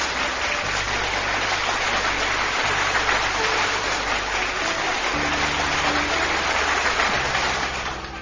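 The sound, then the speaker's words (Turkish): Steady, dense applause from a crowd for a recited poem carries on at an even level for several seconds before tapering off at the end, with a soft low musical hum running underneath. “Çok güzel dizelerde kocaman bir alkış gelsin sana.”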